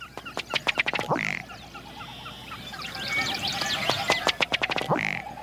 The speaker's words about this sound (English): A ruddy duck.